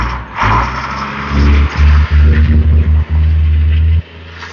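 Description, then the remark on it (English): A solid-body box truck rumbles past, its heavy engine droning low and loud for several seconds, with some rattling mechanical noise, before the sound drops away abruptly. “In case you were wondering, that was a truck. That was a solid body box truck.”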